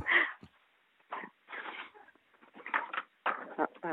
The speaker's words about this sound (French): Est-ce que ça vous embête de vous éloigner des petits chiens qui jouent parce que ça fait pas mal de bruit? Oui, c'est ça. J'ai une portée de chiots et ils dormaient. Et oui, là, ils sont bien réveillés.